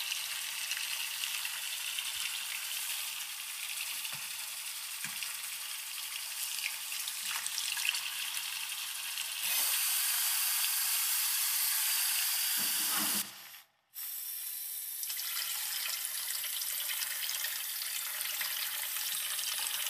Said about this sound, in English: You ever notice how the sound of water changes when you add dishwashing liquid? Listen. Softens.